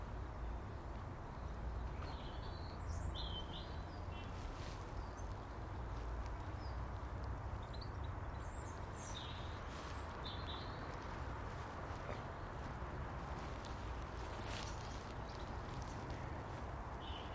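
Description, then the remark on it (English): Birds chirp in short, scattered bursts outdoors over a steady low rumble of background noise. “Oh, the birds. They'll still be there.”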